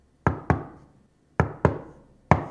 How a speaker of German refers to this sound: Was meinen Sie, kann man mit diesem Klopfen vermitteln? Gehörlose Personen klopfen zum Beispiel auf den Tisch, um sich gegenseitig guten Appetit zu wünschen.